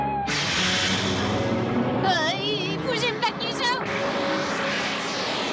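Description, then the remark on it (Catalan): A broad, steady airplane engine roar fills the scene, with wavering vocal cries rising over it midway before the drone carries on as the aircraft pulls away. “En Goku observa l'aparell, que s'allunya.”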